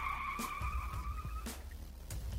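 Car tires screech loudly as the driver slams on the brakes on a rural road with almost no traffic, a sustained high-pitched squeal lasting over a second, with a rumbling engine and a few sharp bursts of noise underneath.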